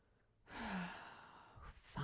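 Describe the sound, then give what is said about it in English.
A doll lets out a long, breathy gasp that trails off like a sigh, then a short second intake of breath starts just at the end. It is fairly loud, with no talking. “Listen to those gasps it lets out. You would think a doll would know how to be quiet.”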